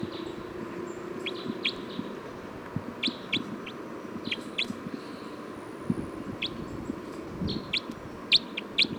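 Song of bird 305 being recorded: short, high-pitched chirps come in scattered bursts of two or three, repeating throughout over a steady low rumble and faint clucking-like murmur.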